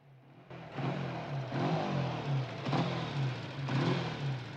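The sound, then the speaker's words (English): A motorbike engine revs hard, its pitch climbing in several rising surges as it shifts through gears and pulls away, loud and steady with no voices. “Jack shakes his head and walks away as the young woman follows Jim to his motorbike.”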